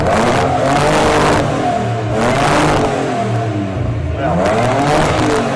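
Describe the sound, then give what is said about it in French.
A Japanese Nissan car engine with Japanese exhausts revs up hard several times when accelerating, its pitch climbing and falling in loud bursts with a rough, buzzing mechanical tone and no talk over it. “Alors, pour les techniciens, un moteur japonais Nissan, quand on accélère, fait ce bruit-là, un peu spécifique, avec des pots de Japon qui essayent de récupérer le bruit d'origine, et fume comme on vient de le voir.”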